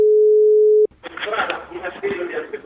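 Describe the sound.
A steady, unbroken telephone dial tone hums loudly for under a second, then cuts off abruptly as a person starts talking over a faint line.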